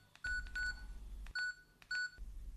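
Four short electronic beeps from a telephone keypad being dialed, each with a faint button click, irregularly spaced and close up, with no talking.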